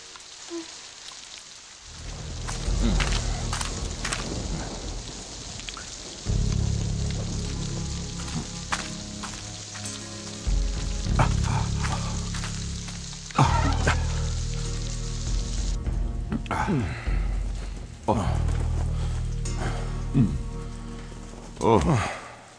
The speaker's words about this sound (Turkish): Ne yağmur ama.